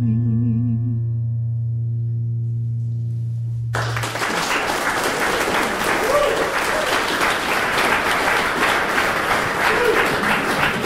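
A sustained low electronic tone with faint higher harmonics fades out, then a live audience bursts into loud, dense applause that continues steadily to the end.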